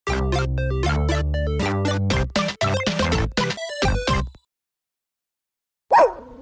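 dog barking

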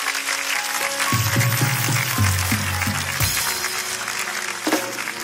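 audience applause

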